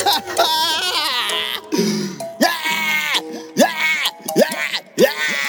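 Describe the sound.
A voice imitates exaggerated, cartoonish crying like the character Chiquinho from the show Chaves: a series of loud, high-pitched wailing sobs rising and falling in short rhythmic bursts, with no other talk.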